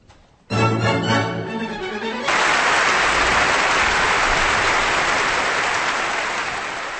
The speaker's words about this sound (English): Applause for the Vienna Philharmonic Orchestra, conducted by Carlos Kleiber, and music by Johann Strauss Jr. in the overture to the operetta Der Fledermaus, or The Bat, here on Kansas Public Radio.